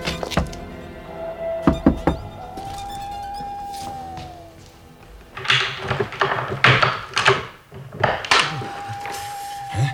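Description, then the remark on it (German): Justus knocks on the door of MacAnderson's house, a few sharp raps early on, then a longer, heavier burst of repeated knocks after a pause, with a faint tonal whine lingering in the background. “Eine halbe Stunde später klopfte Justus an die Tür von MacAndersons Haus.”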